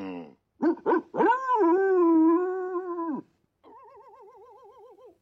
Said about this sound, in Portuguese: Parece cachorrinhos. É claro que são cachorrinhos.